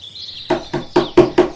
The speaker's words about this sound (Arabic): ماذا حدث يا إلهي؟ إن الغزالة تطرق الباب بقوة.